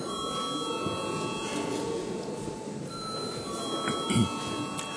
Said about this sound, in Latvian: Paldies, lūdzu zvanu.